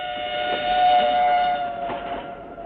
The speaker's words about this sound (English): We left Chiang Mai the next morning by train for Bangkok.